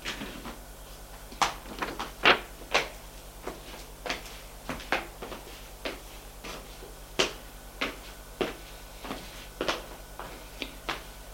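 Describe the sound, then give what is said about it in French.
A series of sharp wooden knocks and clunks on a door, irregular, followed by the rattle and thud of the door being handled and opened as a servant comes in with drinks. No one speaks. “Frappe à la porte.”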